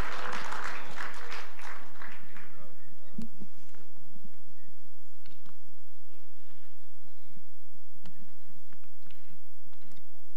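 An audience breaks into loud, dense applause that lasts about two seconds, then quickly thins to a few scattered claps and faint clicks over a quiet background.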